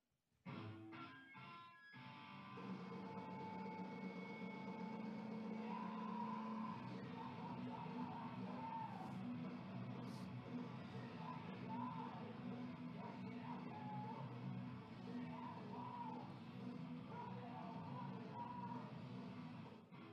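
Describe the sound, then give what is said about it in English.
A snippet of loud, dense punk rock music from a band's first album, with harsh screamed vocals over distorted guitars, kicking off with a few sharp hits before surging into a sustained, unrelenting wall of sound. “I don't know what they're saying because they're screaming it at us, but it's okay.”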